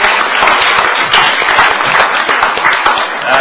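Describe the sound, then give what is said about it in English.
At a Public Works meeting, a crowd applauds the agencies for an 86% reduction in single bid contracts. Many hands clap steadily into a dense, crackling wash of sound that stays loud and even throughout, with no voices rising above it. “That deserves a big round of applause.”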